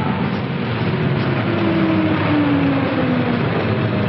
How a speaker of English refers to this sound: Later, a bus pulls off a highway.